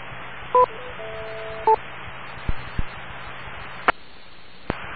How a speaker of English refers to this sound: how fast is the sequence of tones? Are you hearing beep, boop, boop, boop, or is it beep, boop, boop? What did it sound like?